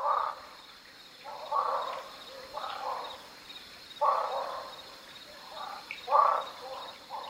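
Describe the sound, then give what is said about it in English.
A barking frog (Craugaster augusti) calls repeatedly at Lost Maples State Natural Area in the Texas Hill Country, short hoarse bark-like notes about once a second, over a steady high insect drone in the background. “That's Craugaster augusti, the barking frog of the hill country.”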